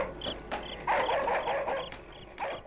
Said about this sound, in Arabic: سمع الأب أصوات الكلاب وهي تنبح وتصيح بأعلى أصواتها. ماذا حل بالكلاب؟ فجأة أصبحت تصيح وتنبح.